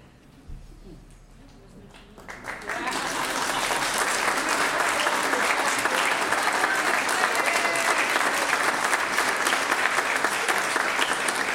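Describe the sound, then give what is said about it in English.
Quiet room noise for about two seconds, then a large audience breaks into sustained, steady applause that swells quickly and continues loudly to the end. “But wait, that's not the applause moment.”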